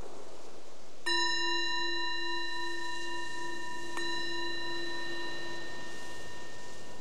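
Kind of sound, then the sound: signal or alarm, meditation bell ringing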